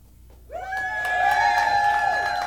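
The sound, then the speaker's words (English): After half a second of quiet, a group of voices bursts into sustained, high-pitched cheering and whooping that holds steady and loud for about two seconds. “they are cheering for the people on the field”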